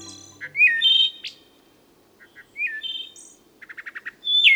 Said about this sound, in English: The wood thrush launches forth his evening strains from the midst of the pines